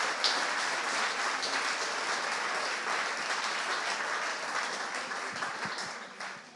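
A crowd applauds steadily for several seconds, a dense wash of many hands clapping at even loudness that thins out slightly toward the end, applause offered to the Lord during a religious service.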